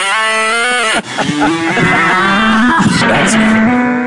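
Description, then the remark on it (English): A cow's moo run through auto-tune, its pitch snapping between steady electronic-sounding notes, followed by more warbling, processed mooing with a buzzy synthetic edge, loud and continuous throughout. “We auto-tune the cow.”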